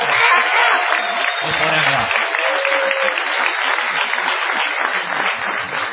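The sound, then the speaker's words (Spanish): An audience at Caras y Caretas greets Patricio Bartón with a steady ovation, dense clapping holding at an even, loud level for the full six seconds, with a brief cheer rising above it partway through. “Vamos a saludar con una inmerecida ovación, por favor, señor, a Patricio Bartón.”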